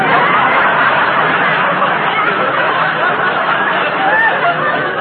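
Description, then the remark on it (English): A dense, steady babble of many voices talking and laughing at once, with scattered snickers and chuckles rising out of the loud crowd chatter of a nightclub at New Year. “Gee, what a crowd.”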